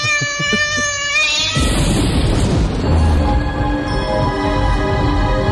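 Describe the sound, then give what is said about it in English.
A huge, drawn-out cat meow rises over a deep rumbling boom, the low roar swelling and lingering beneath the strained, wavering yowl. No one speaks. “There it is, Alexandra. Behold the quiz cat.”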